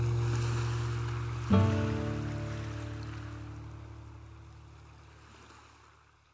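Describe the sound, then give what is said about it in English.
Waves wash onto a pebble beach beneath a low, steady droning tone, with one louder surge early on that slowly fades away. No one speaks. “Seagulls screamed over the crash of waves upon pebbles, drifting on the winds above a violet gray sea.”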